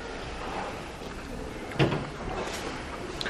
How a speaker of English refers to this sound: would you mind closing that door, please?